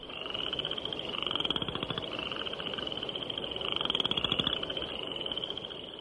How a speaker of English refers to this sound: spring peepers whose once-per-second ascending peeps can be heard day and night, and western chorus frogs, whose call is often compared to the sound produced by running a stick over the teeth of a comb.